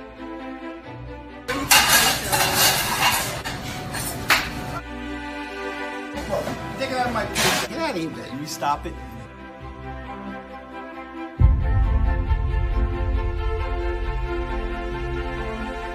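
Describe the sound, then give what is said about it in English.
Glass clinks and breaks in two bright, crashing bursts, with excited voices shouting over the noise before a steady low rumble takes over. “Hey, look. I broke the glass.”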